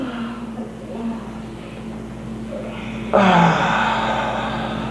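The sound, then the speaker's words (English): A low background hum, then a sudden loud, airy intake of breath that swells into a long, drawn-out voiced yawn, steady until the end. “And just take a moment, take a good full breath and yawn and stretch.”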